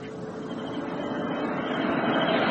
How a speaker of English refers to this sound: An armored car. It will call to the next watchtower, then come back this way in about 15 minutes.